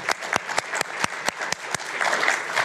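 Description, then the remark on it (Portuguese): An audience applauds a panel speaker steadily, a dense patter of many hands clapping with a few sharper, louder claps standing out, holding at an even level and filling out slightly toward the end. “Agradecemos a Juan Cruz con un aplauso.”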